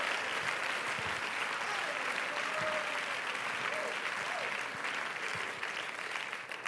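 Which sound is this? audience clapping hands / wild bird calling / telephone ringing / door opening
audience clapping hands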